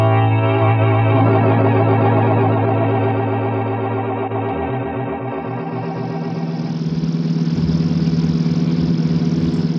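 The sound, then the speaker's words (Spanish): Lord Ferrison's car engine hums steadily, then its low throb pulses and shifts as a rising rush of road noise builds, like the car pulling away and cruising on at a prudent speed back to his estate. “X, conduce su auto de regreso a la finca.”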